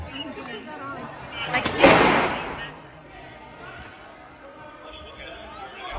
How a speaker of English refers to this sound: Moments later, members of the House seek shelter in the gallery while officers barricade entry into the chamber. It is at this moment that the only firearm to be discharged inside the Capitol that day can be loudly heard.